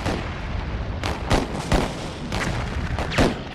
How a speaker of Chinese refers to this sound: 而同时，港口对面的邦联炮舰亦做好准备，他们的炮声就是开战的信号，港口周围的其他炮舰会一起投入战斗。